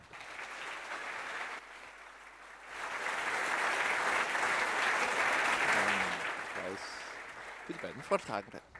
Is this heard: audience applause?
yes